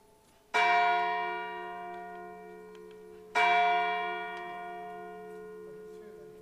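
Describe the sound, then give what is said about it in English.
A church bell strikes two o'clock, two strokes about three seconds apart. Each loud, resonant toll rings on with a long, shimmering decay before the next blow. “There you go, 2 o'clock.”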